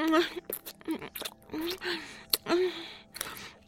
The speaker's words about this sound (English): Slurping, I'm sucking.